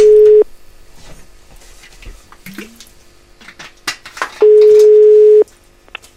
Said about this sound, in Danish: Så jeg ringer lige op til Patrick.